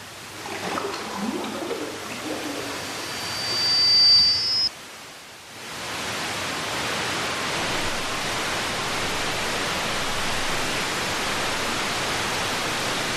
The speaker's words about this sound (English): So he's compiled a whole bunch of, like, space history sounds. So so here we are. This is about a minute of different satellites, and I've announced each one kind of like bird calls or something.